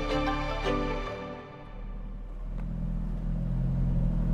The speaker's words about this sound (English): Summer 1988, Holbrook, New Mexico. Ichiro Suzuki releases the brake pedal and lets his car slowly roll out of the McDonald's drive-thru.